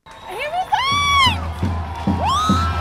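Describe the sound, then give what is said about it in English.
A loud crowd of hundreds of protesters in a square in Beirut, Lebanon, screams and whoops, with high rising shouts soaring over a steady, rhythmic pulse of voices chanting "revolution" after the Prime Minister's resignation. “There are hundreds of protesters in this square. The Prime Minister of Lebanon has just resigned, and they're all screaming and chanting, revolution, revolution, revolution.”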